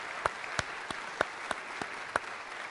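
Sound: audience applauding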